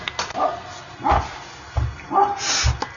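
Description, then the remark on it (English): A dog barks repeatedly in short, sharp bursts, about four or five barks over a few seconds, moderately loud, with a whiny, yelping edge to some of them; dogs in a forest three miles from the nearest road on the edge of a national park, in freezing rain. “So what is all the barking about?”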